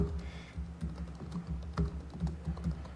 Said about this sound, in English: We'll give that a title. And the text that we want to display. Trouble typing.